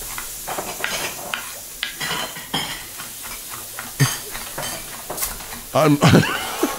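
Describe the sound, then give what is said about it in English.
Kitchen cooking noise: a steady hiss of food sizzling in a pan, broken by irregular scrapes and clinks of utensils, with a couple of louder clattering bursts toward the end. “Cooking. I'm sure we're in the friggin' kitchen.”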